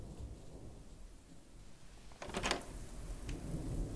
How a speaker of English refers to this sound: Holy shit, that's a lot of rain.